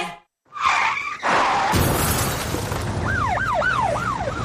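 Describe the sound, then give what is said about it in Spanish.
Tires screech briefly before a loud crash of impact and shattering glass in a traffic accident, followed by a wailing emergency siren rising and falling steadily over lingering noise. “¿Has sufrido un accidente de tráfico?”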